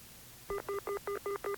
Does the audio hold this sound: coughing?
no